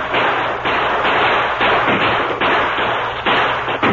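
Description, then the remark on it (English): A sustained volley of rifle gunfire as men fire toward attacking Indians to hold them back, shots cracking out in quick overlapping bursts and echoing into one another. No voices are heard. “Have the men fire toward them to keep them back.”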